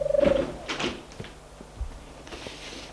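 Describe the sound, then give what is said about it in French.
A door creaks briefly as a woman enters and swings it shut, followed by a few soft knocks and a dull thud as it closes, with faint rustling afterward and no voices. “Elle entre et ferme la porte.”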